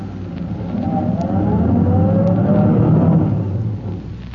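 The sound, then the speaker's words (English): A car engine rumbles, its tone rising as the car approaches out of the shadows toward the mouth of an alley, then eases off and settles as the vehicle slows to a stop. No one speaks. “He waves a signal with his electric torch and waits for his car to emerge from the shadows.”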